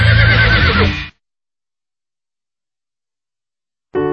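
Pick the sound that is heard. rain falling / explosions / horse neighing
horse neighing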